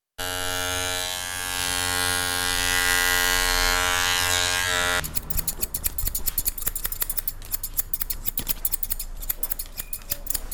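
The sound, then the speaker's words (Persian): At a barbershop in the Chaharahi Salim Karwan area of Kabul, electric hair clippers buzz steadily for about five seconds. They then give way to rapid, crisp snipping of scissors cutting hair in a quick, irregular rhythm. “هر قدر که زحمت بکشید تا پیان باز هم نمایان می شود، پس مجبور می شوی که آن را تراشیده و یا ماشین کنی یک نمبر، نیم نمبر و یا ماشین صفر کنی.”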